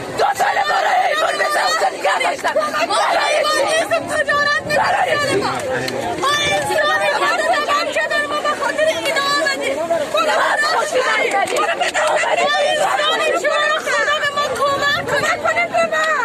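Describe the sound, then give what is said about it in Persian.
A dense crowd of refugees, mostly women and children, shout out their problems at once, a loud, continuous babble of overlapping raised voices with no pauses throughout. “اما هر که آمده با تمام وجود مشکلاتشان را فریاد می‌زند.”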